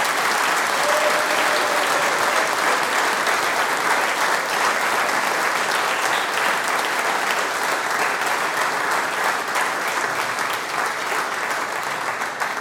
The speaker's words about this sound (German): Applaus nochmal für den Kinderchor, für den Florian und für alle Mitwirkenden.